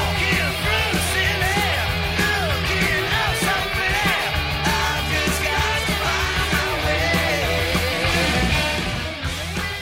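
A loud, dense New Wave of British Heavy Metal track with a punky edge, the opening song of a band's debut album: distorted guitars and driving drums under raspy, shouted rock vocals, steady and full throughout.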